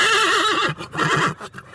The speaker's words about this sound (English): Just the horse is mad to get on radio. Tell me a bit about the horse. Horse, I own him for the last 10 years, bought him in a yearling, best friend.